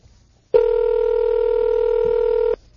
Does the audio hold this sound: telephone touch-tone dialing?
yes